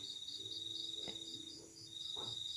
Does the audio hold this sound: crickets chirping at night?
yes